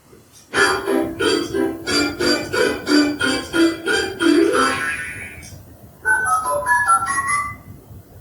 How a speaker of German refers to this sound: Ja, und natürlich wussten wir schon, was die Quelle dieser Geräusche war, nämlich ein Spieltischchen von Fisher-Price, was unsere kleine Tochter ausgeliehen bekommen hatte vor 2 Wochen. Und ja, das Gerät war eingeschaltet